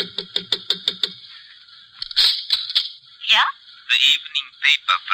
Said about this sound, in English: Hey, wait a minute. Sounds like somebody's knocking on her door.